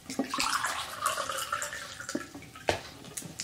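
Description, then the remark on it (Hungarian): Water is poured into a glass to drink, a steady trickling splash lasting a few seconds, broken by a couple of brief knocks near the end. No one speaks. “Megint két különböző dolgot fog mondani, úgyhogy ehhez kell is innom egy kis vizet.”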